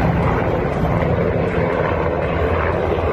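A loud, steady roar of the engines and rotors of two NATO helicopters arriving with the Ukrainian delegation for negotiations with Russia, a dense continuous drone filling the whole stretch with no voices.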